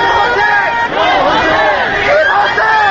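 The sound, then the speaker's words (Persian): A large crowd marching slowly through a street amid gridlocked cars and chanting slogans, with drivers honking along, fills the air with a dense, continuous roar of many voices, chanting rising and falling in swelling waves with no pause. “در خیابان دیگری جمعیت پرتعدادی در میان راهبندان خودروها آرام راهپیمایی می‌کند و شعار می‌دهد.”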